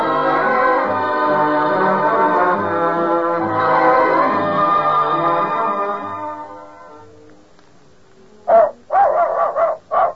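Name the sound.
dogs barking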